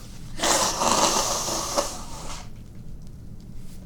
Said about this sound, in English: And while I'm at it, I'm going to take this opportunity to blow my nose because my nose is starting to go.